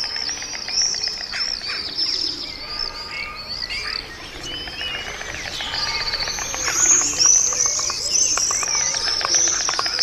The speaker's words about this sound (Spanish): Ahí están las cigüeñas crotorando. ¿Cómo se llama este sonido? En Andalucía el crótalo es la castañuela.